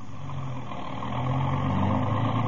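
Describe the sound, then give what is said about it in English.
A car engine rumbles steadily, a deep continuous drone that swells slightly louder as it runs, with no voices. “Then we left and got into the car.”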